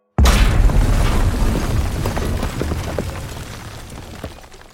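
A driverless petrol tanker laden with fuel and explosives crashes into a weak spot in a wall and explodes with a sudden, loud blast, then a deep rumbling roar slowly fades over several seconds, with scattered crackles and debris sounds. No one speaks.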